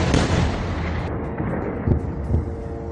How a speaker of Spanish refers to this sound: Estás escuchando el sonido de los disparos de esta misma madrugada.